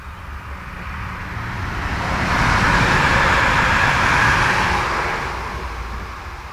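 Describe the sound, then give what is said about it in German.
A train rolls past, a steady broad rumble and hiss that swells to a peak midway and then slowly fades, with no voices. “Doch dann kam ein Zug.”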